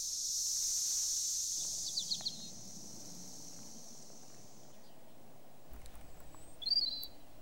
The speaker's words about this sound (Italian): Cicala, una volta si diceva che il tuo canto provenisse dal caldo, che con il tuo frinire disegnavi la stagione estiva, gioiosa, vitale. Il tuo canto, cicala, si dice frinire, ed è un canto d'amore.